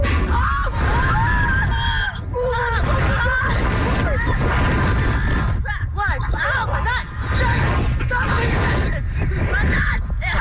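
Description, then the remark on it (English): A boy screams and yells almost nonstop, loud, shouting the word "nuts" the whole time, his shrieking voice wavering up and down over a constant roar of rushing wind, while riding a slingshot amusement ride. “All you just screamed was nuts the whole time.”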